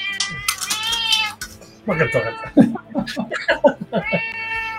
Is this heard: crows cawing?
no